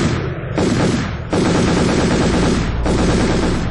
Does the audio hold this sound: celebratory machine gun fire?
yes